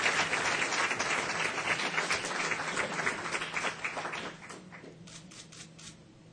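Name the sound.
round of applause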